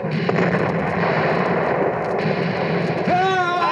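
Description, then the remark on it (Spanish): Dense, rumbling cannon fire from an American frigate battling a British warship at sea southeast of Boston, booming blasts and crackle, continuous and loud, with a shouting voice rising near the end. “¡Los alcanzamos con nuestros disparos!”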